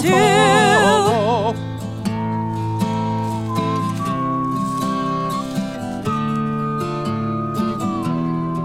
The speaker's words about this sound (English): And now he's whistling.